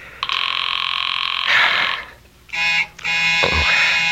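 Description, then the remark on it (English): A telephone rings loudly in long, bright, buzzing bursts, one long ring followed by two shorter ones after a brief pause, with no voices over it. “I'm going to answer the phone.”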